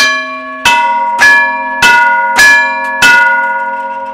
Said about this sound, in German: Und so hat einfach immer der Nachbarbahnhof, wenn er einen Zug hat, gegen Kerzers geschickt, eben abgeläutet.